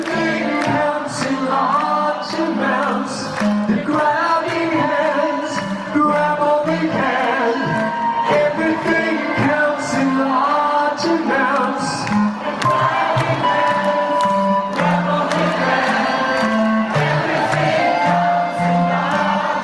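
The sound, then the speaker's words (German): A concert crowd at the Waldbühne in 2018 screams and cheers over loud live music. The shrill, steady roar of voices blends with the band for the whole stretch without letting up. “Ich glaube, im Hintergrund hört man mich sogar ein bisschen mitkreischen oder schreien.”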